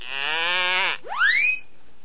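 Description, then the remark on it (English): A goat gives one long, steady bleat lasting about a second, then a bright rising whistle-like sweep follows. The sounds are clear, with no talking. “Little goat bleat, little elves here.”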